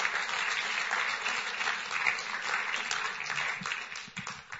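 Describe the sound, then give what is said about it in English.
Steady applause from a crowd for a woman who shared her testimony, a dense wash of many hands clapping at an even level throughout, tapering off slightly at the very end. “A round of applause for this amazing lady.”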